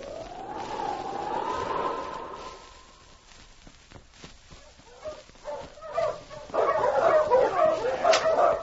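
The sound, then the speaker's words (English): A sled team of five to six huskies, with a lead dog running free, howls, then after a few scattered steps breaks into a loud, overlapping chorus of excited barks and yips. “His team was made up of 5-6 huskies with an exceptionally good dog running as a free lead.”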